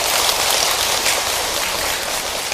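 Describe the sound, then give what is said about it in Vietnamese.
An audience claps steadily, a dense, even wash of many hands that holds at a constant level for a few seconds with no voices over it. “Và nếu quý vị hoan hỷ với điều nói trên á, thì tiếp tục cho một tràng vỗ tay nữa nào, một cam kết.”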